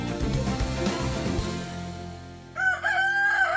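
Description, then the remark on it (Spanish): Music plays for a couple of seconds and then fades out, giving way to a single loud rooster crow, a drawn-out cock-a-doodle-doo that rings through to the end. “Cuando canta el gallo negro es porque se acaba el día.”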